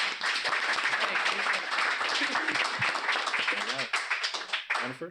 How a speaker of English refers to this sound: So can we all applaud and welcome our friend?